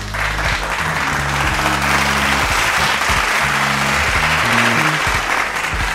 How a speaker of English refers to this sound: A round of applause for Olamide for that.